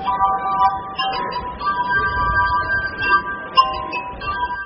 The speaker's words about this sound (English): Jamie Turner often performs to large crowds in Old Town Alexandria, Virginia, a short drive from Washington, D.C. You can find Turner playing an unusual musical instrument, the glass harp, near Alexandria's historic waterfront.